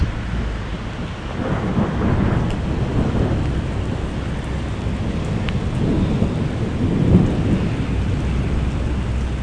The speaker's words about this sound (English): Ah, there's some lightning. Let's see if we can get any thunder out of this.